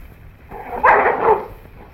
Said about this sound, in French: J'ai déjà dit que le loup est un animal des plus dangereux. Persuadez-vous, en écoutant la voix féroce du loup attaquant sa proie.